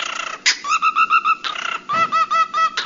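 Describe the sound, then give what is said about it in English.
A gray and yellow cockatiel named Harvey, perched on his owner's finger, beatboxes, cycling rhythmic runs of bright, pulsing chirps with sharp breathy noise bursts in between, like an electronic dance beat, loud with no talking. “Polly deserves a cracker for this video that shows a gray and yellow cockatiel named Harvey beatboxing so well it sounds like electronic dance music while perched delicately on his owner's finger.”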